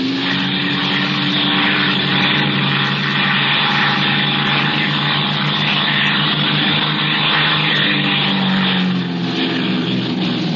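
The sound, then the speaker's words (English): A propeller airplane engine drones steadily in flight, a loud, continuous throbbing hum with a low buzzing tone that holds for the full stretch without any voices. “Oh, that's swell flying, Tommy.”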